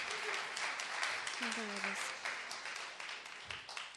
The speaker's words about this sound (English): To clap for him, give him a big hand clap. Klatsche doch mal für ihn.